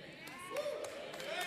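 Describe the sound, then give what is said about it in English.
A handful of scattered, uneven claps from an audience, sparse and hesitant rather than full applause, with a voice speaking underneath throughout. “Now this is an awkward clap.”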